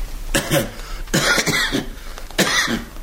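man coughing

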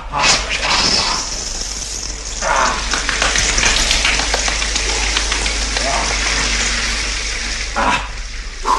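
shower running water

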